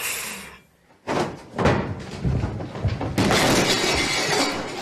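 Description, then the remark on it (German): A loud crash as a cupboard at home topples, followed by a long stretch of glass shattering and tinkling, with a second burst of breaking glass partway through. “Sonst fällt der Schrank um zu Hause.”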